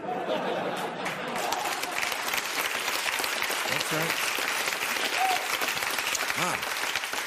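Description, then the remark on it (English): Steady audience applause fills the whole stretch, a dense continuous clatter of clapping at even loudness, with a bit of crowd chatter and a brief spoken remark mixed in. “Thinking into applause.”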